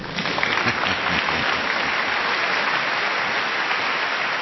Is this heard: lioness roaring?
no